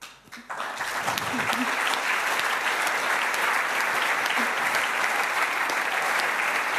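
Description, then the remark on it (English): A crowd bursts into loud, sustained applause for Masa after a brief quiet start, the dense clapping holding steady and even for several seconds without any speech over it. “And with that, one more warm applause for Masa.”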